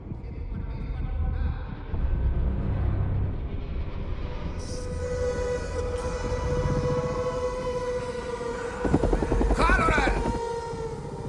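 Steady, droning helicopter engine noise from inside the cabin, a constant low throb with whining tones rising over it, continuing throughout with a brief louder rattling surge near the end.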